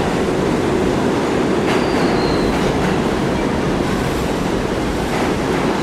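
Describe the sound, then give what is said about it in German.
A subway train riding to Penn Station rumbles along steadily, a loud, continuous roar of wheels and track noise with faint squeals and clatter, heard from inside the moving car. “Wir fahren jetzt mit der U-Bahn zur Penn Station”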